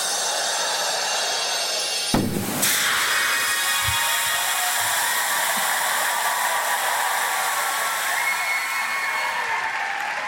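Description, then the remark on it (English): A genie bursting out of a magic lamp: a steady airy hiss suddenly erupts into a loud rushing whoosh, then keeps roaring and swirling at full strength with no voices. “Big jump out of the lamp that time as well.”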